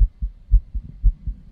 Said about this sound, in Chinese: 有心跳的你就要仔细听一下。